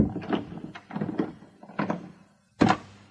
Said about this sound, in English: I hurried back to my room and locked my own door too.